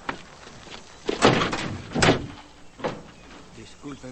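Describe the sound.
A car door thumps shut, then another door opens and closes with a couple of dull clunks, close by, while a voice narrates over the sounds.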